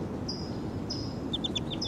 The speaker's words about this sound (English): And the wild bird's calling in the back.